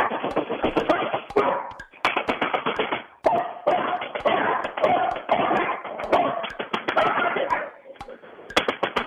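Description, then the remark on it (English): A mixed breed dog named Sophie barks over and over in quick, loud bursts with brief pauses, prompted by a doorbell technique during a 30-second timed bark count that reached 30 barks, mixed with sharp tapping clicks and a busy, noisy background. “how many barks did we get”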